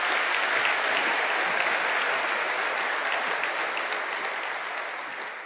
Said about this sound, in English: I really would like to thank all of you, and I think they all deserve an incredible round of applause for putting this on.